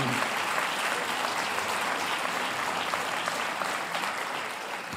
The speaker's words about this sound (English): The success was such, not judged, they deserve this applause. No?